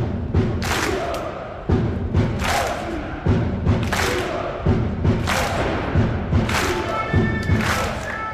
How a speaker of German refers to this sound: Ganz Graz steht aktuell Kopf. Die Steirer feiern da gerade den Cupsieg von Sturm am Grazer Hauptplatz. 2:0 hat Sturm gestern Abend Rapid besiegt. Und zigtausende lassen gerade in Graz die Mannschaft hochleben.